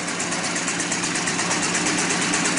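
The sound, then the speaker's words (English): An old car engine, a 1909 Brush D24 built in Michigan, USA, known as the Titanic car, runs steadily at idle, a continuous loud mechanical chug with a faint rhythmic pulse throughout, with no voices. “While you are enjoying the details of this masterwork, which is probably the oldest car still operational, you can hear a recording of its engine running, I will give you some more details.”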